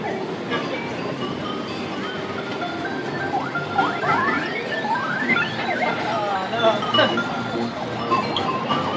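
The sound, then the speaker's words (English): Overlapping electronic arcade game sounds, including a Donkey Kong Pauline edition machine: rising and falling chirps and beeping sweeps, fairly loud and continuous, over a steady wash of crowd chatter and background noise. “Oh, here's the Donkey Kong Pauline edition.”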